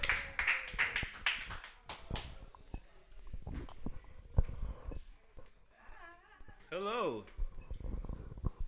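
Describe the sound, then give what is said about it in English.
A short burst of audience applause, a dense patter of many hands clapping for about two seconds, which fades out as voices start talking and moving about. “Round of applause.”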